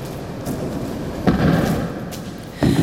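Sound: heavy door slamming shut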